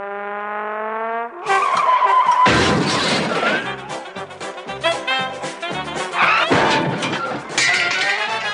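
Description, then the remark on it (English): A car's tires screech in a long, high skid, then a loud crash erupts into several seconds of smashing metal, shattering glass and clattering debris, with no voices. “For the next 60 minutes, we'll be seeing actual film of car crash victims.”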